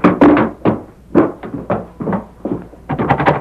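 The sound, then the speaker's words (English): A fist pounds heavily on a wooden door, a rapid, uneven series of about ten loud thuds with short pauses between bursts of blows, as men demand the door be opened. “Open the door. Open up. We know you're in there.”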